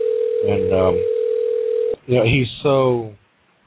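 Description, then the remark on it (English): A steady, single-pitched telephone ring tone of a call placed live on air hums over the line for about two seconds while a person talks over it, then cuts off abruptly as more speech follows. “There's the phone ringing, at least.”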